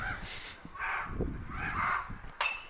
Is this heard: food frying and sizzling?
no